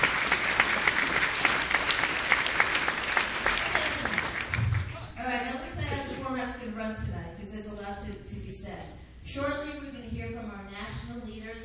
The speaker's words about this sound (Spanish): Ahora pueden aplaudir.